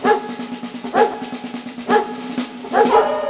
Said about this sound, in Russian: Лаешь ты громко, голос у тебя хороший, будешь петь и в барабан бить.